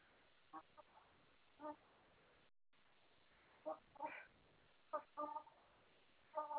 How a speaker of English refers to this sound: I bought Ruby the chicken in today, and I just occurred to me, did you need her food, or you've got food for chickens, or?